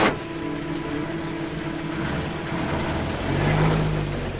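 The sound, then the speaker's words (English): A pickup truck engine rumbles steadily as the truck is shifted into gear and rolls forward onto a flat wooden plank bridge just above a river, its low drone swelling louder toward the end, with no voices. “He shifts the truck into gear and pulls forward.”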